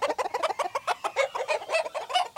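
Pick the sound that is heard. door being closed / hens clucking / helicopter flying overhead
hens clucking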